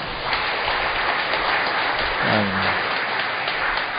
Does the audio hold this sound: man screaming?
no